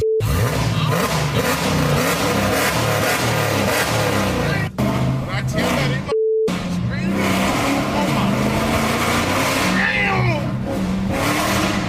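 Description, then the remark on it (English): A loud, continuous engine roar with revving and accelerating surges, punctuated by brief dropouts and a tire-squeal-like whine near the end, with faint voices mixed underneath. “If you listen carefully between all of the roaring of the engine, you can hear just right underneath.”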